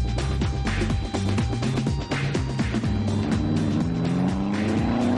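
A race car oversteers through a turn at very high speed, its aerofoil giving too little downforce so the back end slides and spins out. The engine revs loudly with pitch rising and falling, and tires squeal over a steady roar. No voices.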